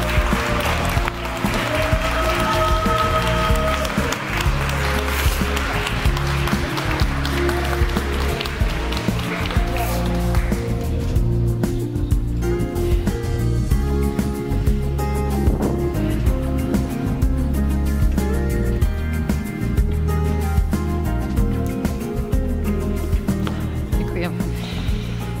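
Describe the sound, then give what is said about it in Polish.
Steady, dense applause from an audience at an awards gala, honouring the laureates, runs the whole time, a continuous loud wash of clapping with a tonal musical layer underneath, more prominent in the first half. “I myślę, że chyba warto nagrodzić naszych laureatów jeszcze takimi jednymi szczerymi oklaskami.”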